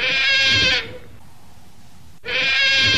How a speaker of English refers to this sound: The river otter.